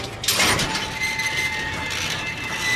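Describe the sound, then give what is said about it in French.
A metal gate creaks open with a long, steady, high-pitched squeal and a grinding rasp underneath, lasting nearly three seconds at a fairly loud, even level with no voices. “Pas très envie d'entendre votre portail grincer tout l'été.”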